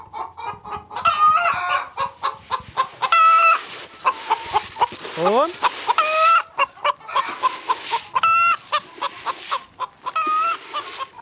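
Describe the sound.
A busy flock of about 180 hens clucks and squawks continuously, with rising harmonic calls and the flock's four roosters crowing among them, as they are let out of the barn for the first time in three months, at the end of March, on a farm in Tägerwilen, canton Thurgau, Switzerland; a brief voice speaks once.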